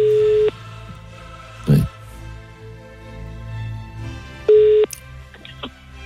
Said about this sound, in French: Allez, on appelle. Faites-moi sonner le téléphone. Là.